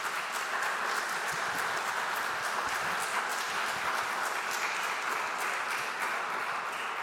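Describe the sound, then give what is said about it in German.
An audience at a church service claps steadily, a dense, even wash of applause that holds at a constant loud level for several seconds with no voices rising above it. “Der Applaus ist absolut berechtigt.”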